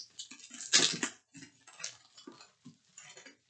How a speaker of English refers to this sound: Oh, did you just drop scissors and catch them with your bare hands? Yeah. What, are you injured? No.